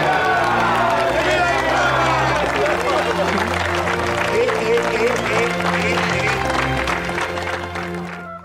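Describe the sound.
A crowd cheers and shouts long live the bride and groom, Ippolita and Mezza Pagnotta, at their wedding, many overlapping voices rising in excited calls over scattered clapping, staying loud throughout before easing slightly at the very end.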